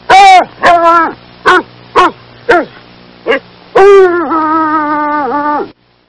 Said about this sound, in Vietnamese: Phía xa xa, tiếng chó sủa và kêu ăng ẳng, nghe kinh khủng. Chắc là Actimon và Buratino đang hết sức chống chọi với bọn kia.